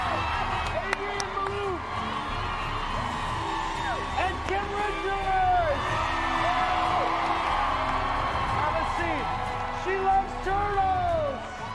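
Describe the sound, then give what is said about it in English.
A studio crowd cheers loudly and steadily as Caroline Manzo, Joe Jordan and Gina Keo are welcomed, with many high rising whoops and shouts cutting through the dense roar of voices for the whole stretch. “How about this crowd?”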